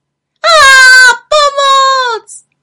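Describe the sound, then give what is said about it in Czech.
A voice imitates a monster's loud growl as a frightening spook emerges from the grass: two long, drawn-out moaning cries, strongly tonal, the second sliding down in pitch at its end, followed by a brief faint blip. “Najednou se rozlehlo hlasité mručení a z trávy se vynořilo děsivé strašidlo.”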